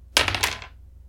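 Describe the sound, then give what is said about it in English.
Dice clatter and tumble across a hard tabletop in a quick burst of rattling hits, settling within about half a second, rolled to consult an oracle for how many, landing on 79. Fairly loud, with no talking. “I swear, my dice want to kill me!”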